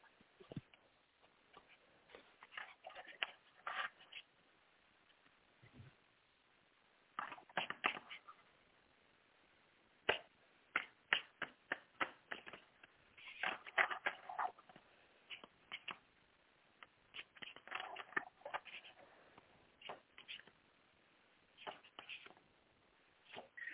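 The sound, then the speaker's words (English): Crisp shuffling of a deck of cards for a card reading, bursts of papery riffles and taps coming in irregular clusters with brief pauses, fairly quiet and heard alone without talking. “Let me shuffle the cards.”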